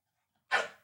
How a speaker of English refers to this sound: He's barking at the box of magic spoon. He's barking at the magic spoon. Why? Because you realize it's a keto cereal? Is that why?